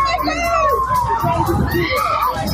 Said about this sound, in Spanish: Los gritos desesperados de los padres que superan a los gritos de los policías que intentan contenerlos.